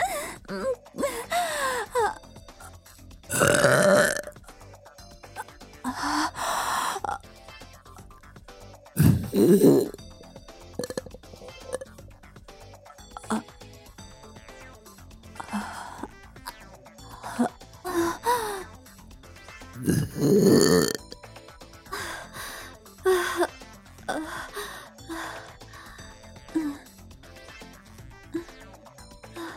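burping

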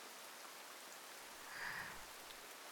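rain falling

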